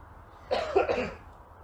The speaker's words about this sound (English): Sorry, I had to cough there. It's not because I'm sick. It's because it's cold and my voice is raspy.